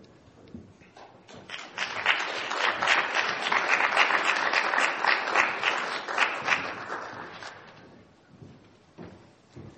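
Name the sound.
applause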